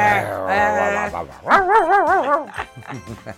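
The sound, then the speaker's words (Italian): A person on a Radio Icaro broadcast imitates a dog, giving a few barking yelps, then a wavering, whining howl, followed by quicker, choppy bark-like sounds. “Oh, lo sai che qua a Radio Icaro c'era un altro che abbaiava sempre e adesso è a M2O.”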